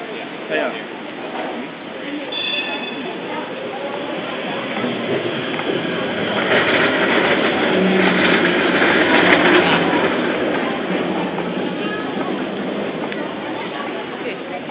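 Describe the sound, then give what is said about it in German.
A train rumbles past near a railway station, its steady mechanical roar building to a peak midway before easing off, with indistinct voices murmuring in the background. “Ja, und ihr müsst euch vorstellen, hier ist der Bahnhof”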